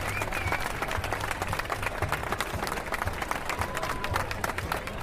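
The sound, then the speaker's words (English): A crowd applauds at a cycling stage finish podium ceremony as stage winner Steve Cummings comes onto the podium, with dense, steady clapping holding an even level for the full five seconds and a low hum underneath. “An appreciative round of applause.”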